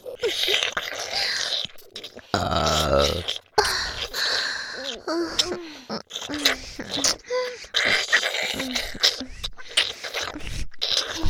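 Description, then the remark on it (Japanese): A long, deep burp rumbles up close and loud about two seconds in, surrounded by a woman's breathy, murmured voice and soft vocal sounds. “ゲップで精子いっぱい出してくださいね”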